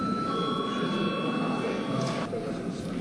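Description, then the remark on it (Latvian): A parliament session bell, rung when the chair calls a recess, rings continuously for over two seconds, a bright buzzing metallic tone, then cuts off abruptly, leaving a murmur of background noise. “Lūdzu zvanu.”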